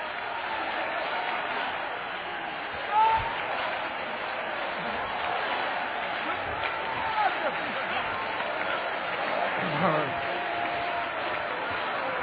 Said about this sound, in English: This time shout when you clap. Shout with your voice. Like the sound of mighty rivers and waters pouring.